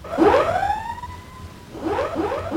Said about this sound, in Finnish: Hälytys!